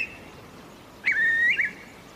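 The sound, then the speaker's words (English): A single clear curlew call on Mood's Bog, a bright whistled note that rises and holds with a quick flourish at the end, rings out over a quiet outdoor background about halfway through. “It's a beautiful call.”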